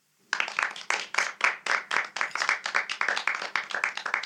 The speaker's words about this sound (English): That's a very long, slow clap. Very nice.